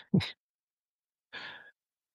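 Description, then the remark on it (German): Two quick, soft paper rustles from pages being leafed through in a book while searching for a quote, the first with a faint thump, the second a longer swish about a second later, with silence between and no talking. “Und wie man hört, ich bin am Blättern.”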